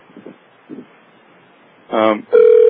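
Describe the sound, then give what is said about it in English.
A telephone rings over the conference line of an internet seminar: a short, loud, buzzy electronic tone burst followed by a steady droning tone, after a quiet stretch with faint low murmurs. “Wait for the phone to stop ringing.”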